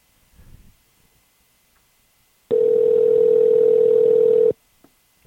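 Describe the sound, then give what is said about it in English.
A single steady electronic ringback tone sounds loud for about two seconds as an outgoing phone call rings, then cuts off, with only faint, quiet handling noise before and after. “Oh, see, it's ringing.”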